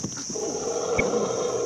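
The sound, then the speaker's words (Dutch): An elephant, one of those that wait here every day to carry tourists on its back for a walk, gives a drawn-out, droning call that holds steady for over a second, with a high hiss of outdoor noise running underneath. “Deze olifanten staan hier iedere dag te wachten om een rondje te wandelen met een toerist op hun rug.”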